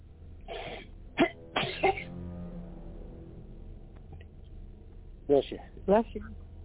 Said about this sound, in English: Bless you.